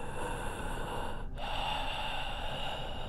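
deep heavy breathing

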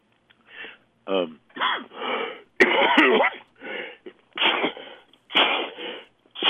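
sneeze

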